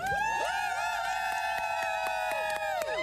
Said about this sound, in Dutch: En er staat hier een hele club vrijwilligers allemaal in hesjes. En die zijn allemaal aan het juichen. Kunnen jullie allemaal één keer juichen?